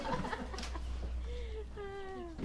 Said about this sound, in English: I hear the chickens. What are they doing? Can we go see them? Are they having an argument?